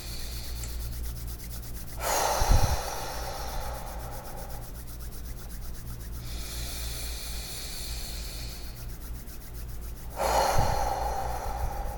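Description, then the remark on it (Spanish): Deep, slow breaths during a guided breathing exercise rise and fall in a steady rhythm, three long airy swells, with a faint rustle between them and no talking. “Suelta las manos, colócalas en forma de oración y frótalas. Seguimos respirando.”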